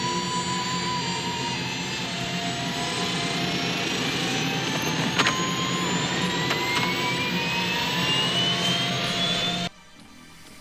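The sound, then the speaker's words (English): A helicopter landing on the roof of a shopping mall roars overhead in a loud, steady engine drone with rising whining tones, continuing for about ten seconds before cutting off abruptly to a much quieter hum. “As the story continues, the four main characters land their helicopter on the roof of a shopping mall.”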